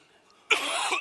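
After a brief quiet moment, a single loud cough bursts out abruptly and lingers harshly for about half a second.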